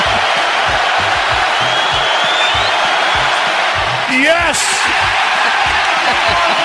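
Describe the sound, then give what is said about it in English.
A basketball arena crowd at a playoff game between the Sixers and the Heat roars in loud, sustained cheering that fills the whole clip, with a single excited shout rising out of the din partway through. “And the crowd explodes.”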